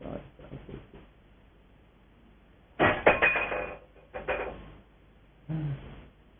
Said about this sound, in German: Gornitai wollen uns etwas sagen. Es klingelt vom Altar her.